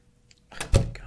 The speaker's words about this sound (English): Dude, I shut the door, you can take the sheets off.